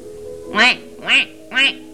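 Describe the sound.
A person imitates a duck, giving three loud, nasal quacks in an even rhythm, each about a fifth of a second long, with short pauses between them against a quiet background.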